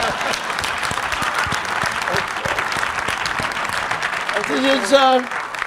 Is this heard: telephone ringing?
no